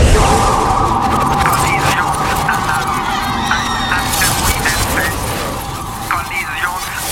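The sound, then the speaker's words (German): Loud, blaring warning sirens wail aboard a spaceship over a dense roar of rumbling noise, with honking alarm tones rising and falling continuously throughout. “Warnung, Sirenen, 10.000 winziger Körper, dazwischen viele hundert großer Brocken.”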